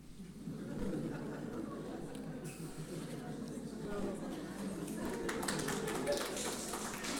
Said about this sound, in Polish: Kochani, ja wiem, że klaskanie to taka świecka tradycja i ja jestem osobiście przeciwny klaskaniu, tak? Lepiej powiedzieć amen, niż powiedzmy czcić kogoś, kto coś mówi, czy ktoś deklamuje.